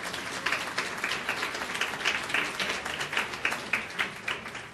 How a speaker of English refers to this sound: Je pense qu'on doit un bel applaudissement aux gens qui ont travaillé très, très fort pour organiser l'événement aujourd'hui.